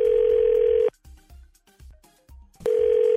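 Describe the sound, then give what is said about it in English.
A phone call from the 102.9 The Wolf morning radio show in the Twin Cities rings out: a loud, steady mid-pitched tone sounds for about a second, breaks into a pause with faint low thumps, then starts again. “Let's try to give her a call and see if we can track her down.”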